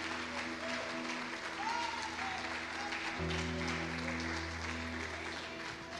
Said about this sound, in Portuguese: Você pode aplaudir a Ele aí. Aleluia.